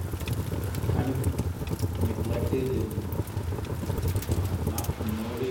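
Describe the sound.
Steady rain patters and hisses close by, mixed with the soft crackle of a fire, while muffled voices murmur faintly underneath the continuous wash of sound.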